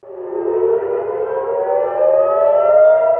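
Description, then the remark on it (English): Loud, sustained air raid sirens wail continuously in Haifa, in northern Israel, warning of a wave of incoming Iranian ballistic missiles; the steady rising tone is layered with several overlapping sirens, with no speech over it. “In Israel's northern city of Haifa, sirens alert a wave of incoming Iranian ballistic missiles.”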